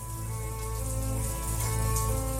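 Steady rain hisses continuously in Mexico after hours of rain, raindrops pattering against a soaked-through jacket, layered over a low, sustained tonal drone that holds through the whole moment.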